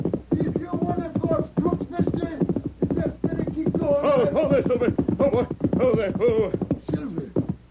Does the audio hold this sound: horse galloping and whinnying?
yes